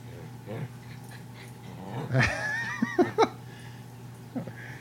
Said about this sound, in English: Yeah. We're recording. It's kind of late, and this dog thinks it's playtime for some reason.